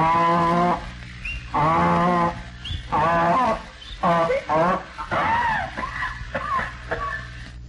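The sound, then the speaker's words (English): A donkey brays loudly at a barn, in a series of harsh, drawn-out hee-haw cycles that speed up into shorter, choppier gasps toward the end. “Back at the barn, as the old Rocky Mountain canary bird starts out.”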